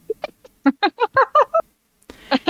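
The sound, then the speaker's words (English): A raven caws loudly and harshly, a rapid run of raspy calls strung together, then a short pause before another burst of cawing. “There is the loudest, longest caw you've heard so far. That's not a happy bird.”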